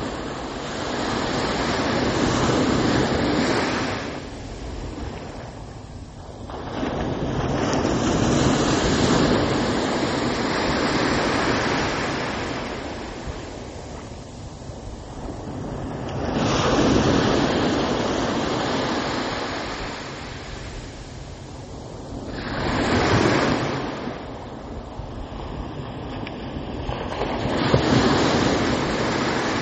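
Ocean waves crash onto the shore on a muggy day in loud, rolling surges every few seconds, broad roaring wash between breakers with some wind buffeting, and no one speaking.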